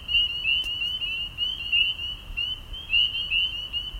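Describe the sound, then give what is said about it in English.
A dense chorus of spring peeper frogs singing all night in a neighborhood in Greene County, New York, countless high, piping peeps overlapping into a steady shrill wall of sound, with a low rumble of background noise beneath. “Right now, we're eavesdropping on a bunch of frogs called spring peepers that are singing all night in my neighborhood in Greene County, New York.”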